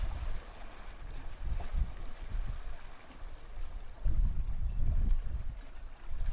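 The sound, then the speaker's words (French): Steady outdoor ambience at a port with a low rumbling wash of water and wind, bursts of lapping waves against the harbour rocks and noise from a sailing boat with people aboard swelling around the middle and end, no voices. “Voilà, il y a des gens sur le bateau, c'est quoi comme bateau ? Il y a des gens qui sont partis en voile, ouais.”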